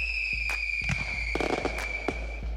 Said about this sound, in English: Fireworks.